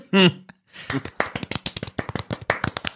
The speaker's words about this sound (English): That's some terrified clapping.